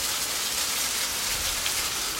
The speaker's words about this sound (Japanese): わあ、雨の音。